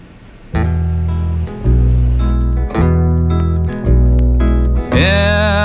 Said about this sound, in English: And I'm going to play this off some vinyl here, and hopefully it's not too crackly. I dug this out of the vinyl library. The cover is all mugged up on this record. It's the original release, so let's see how it sounds.